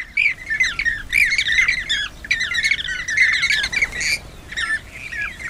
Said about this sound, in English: Sounds to me like a bird called the bee eater. Well, several of them, a flock of them.